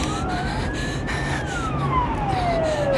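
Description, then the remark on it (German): An ambulance siren wails with a rising then falling pitch sweep over steady traffic rumble, loud, as the ambulance shoots out of a side street and races onto Nevsky Prospekt. “Da ist der Krankenwagen! Er kommt aus dieser Crashstraße geschossen!”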